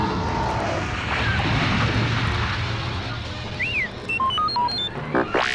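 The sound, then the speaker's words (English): TIE fighters approach and engage a squadron of space fighter ships, roaring past in a steady, loud engine rumble, joined near the end by a string of high electronic chirps and beeps and a final rising-and-falling whoosh. “Heads up, called the squadron leader. TIE fighters approaching.”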